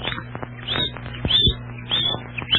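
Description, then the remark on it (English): A bird named Chirpo chirps out the time, giving a series of about five short, high-pitched chirps, evenly spaced roughly half a second apart, fairly clear over a low steady background hum. “I'll chirp what time it is”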